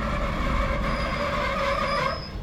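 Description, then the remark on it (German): A train rolls steadily as it slows into a station, a continuous rumble with high metallic wheel squeal and brake tones, easing slightly at the end. No one speaks. “Der Zug wird schon langsamer. Ja, wir fahren gerade in den Bahnhof ein.”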